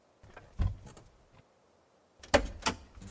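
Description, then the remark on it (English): A truck door unlatches and swings open with a low mechanical clunk as someone climbs out of the truck, followed after a pause by two sharper, louder thuds, with no voices. “I climbed out of the truck.”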